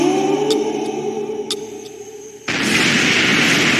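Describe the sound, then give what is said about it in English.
A low humming drone with a few sharp ticks gives way to a sudden, loud explosion of a building, set off after the Riddler's countdown to trap Batman inside, a harsh roaring rush of noise that keeps rumbling to the end. “And then we see the building explode, and seemingly our Dark Knight is no more.”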